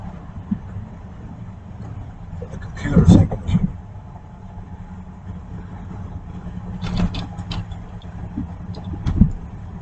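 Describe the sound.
A car engine, started so the battery doesn't run out, runs at a steady low idle throughout, a constant rumbling hum with a few louder bursts of noise and muffled voices rising over it.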